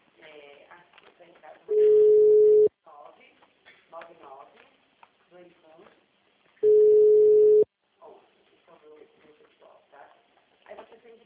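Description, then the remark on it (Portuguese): A telephone ringing tone from an outgoing call sounds twice, each a steady, loud low-pitched hum about a second long, separated by a few seconds, while people talk quietly around and between the rings. “Qual é o telefone aqui?”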